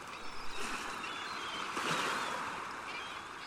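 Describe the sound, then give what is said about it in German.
Steady rhythmic rushing of sea water as a sailboat drifts quietly toward the mainland, swelling softly and easing back, with no voices; faint gull calls drift in the distance. “Und das rhythmische Rauschen des Wassers.”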